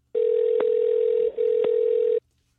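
A steady, loud telephone dial tone hums for about two seconds, broken by two sharp clicks and a brief dip, as if a line is being picked up and dialed. No one speaks.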